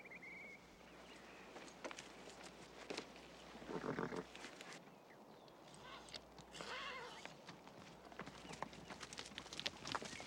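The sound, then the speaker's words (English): A saddled, riderless horse walks from behind a tree at an unhurried pace, its hooves clip-clopping in a steady, uneven rhythm, with a few louder snorting or rustling bursts over a continuous low rumble of ambience. “horse walks from behind a tree, but the saddle is empty.”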